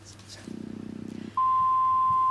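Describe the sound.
A low buzzing pulse, then a sharp, loud, steady electronic beep begins and holds unbroken to the end, like a voicemail machine's tone signalling the start of recording.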